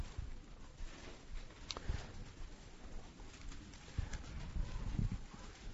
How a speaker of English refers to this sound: Just want you guys to know how to find your way around the manual here. That's a good thing, listening to those pages turn.